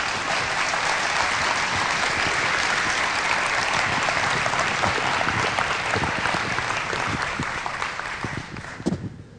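Sustained, dense applause from a large church audience giving a clap offering, steady and loud for about nine seconds before tapering off with a few final claps at the end.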